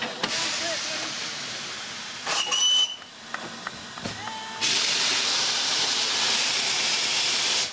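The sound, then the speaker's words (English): The Flying Scotsman steam locomotive, stopped for water at Shalford in Surrey with hundreds of people gathered, hisses steadily, gives a short high whistle partway through, then lets out a louder, sustained rush of steam near the end, with faint background voices. “and we've just arrived at Shalford for a short water stop, and there are hundreds of people here to greet this famous locomotive and its famous steam engine.”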